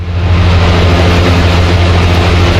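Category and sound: household object, electric fan running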